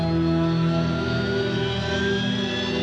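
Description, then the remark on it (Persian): A loud, steady roar of aircraft engines with a droning hum and high whine that slowly drifts lower: the Imam's plane touching down at Mehrabad Airport and rolling along the runway. “هواپیمای امام که توی فرودگاه مهرآباد نشست، مطهری به عنوان مسئول کمیته استقبال رفت پیش امام.”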